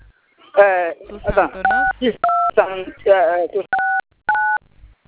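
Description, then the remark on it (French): Several short, steady dual-tone keypad beeps from a phone being dialed, spaced irregularly between stretches of a person talking; the beeps are clear and fairly loud. “prendre un autre téléphone pour composer, ça serait mieux”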